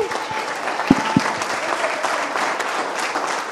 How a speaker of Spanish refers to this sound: aplauso, ¿ok?